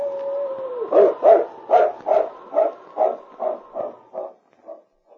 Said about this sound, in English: A different howl, which he recognized as a distress call of the dog he looked upon as a mate